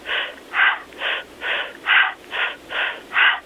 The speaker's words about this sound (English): I may have them do, let's say, I say breathe through a straw, like you're breathing through a straw, and it sounds like...